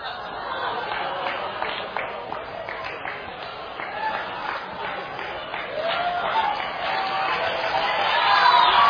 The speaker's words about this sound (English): I mean, they're clapping, and I'm like, this is a bunch of witches.